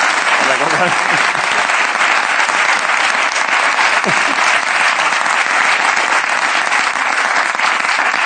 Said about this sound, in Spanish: Un aplauso para este muchacho que, bueno, me ha pedido un...